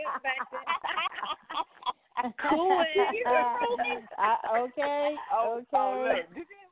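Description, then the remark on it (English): A pet bird chirps and squawks loudly and nearly nonstop, its harsh, voice-like calls coming in quick bursts with only brief pauses. “And look, kiss at your little bird behind you.”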